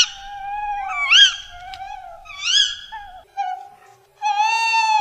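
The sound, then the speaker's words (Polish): A tawny owl calls alone in a series of eerie, tonal cries, some with sharp rising-and-falling sweeps, ending in a louder, sustained wavering note. No one speaks. “I wyobraźmy sobie teraz małych Jasia i Małgosię zostawionych nocą w lesie i zmuszonych do wsłuchiwania się w taki oto złowieszczy chichot. To puszczyk.”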